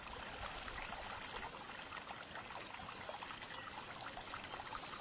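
Soft, steady bubbling and trickling water runs continuously, a gentle babbling stream that stays quiet and even throughout with no voices.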